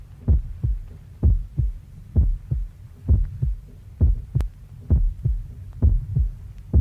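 A steady, deep heartbeat thumps in paired lub-dub pulses, roughly once a second, over a low hum, opening a song. No voices, just the muffled throbbing repeating evenly throughout.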